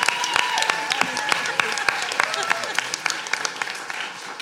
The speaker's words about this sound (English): Big round of applause for Panto X Oxford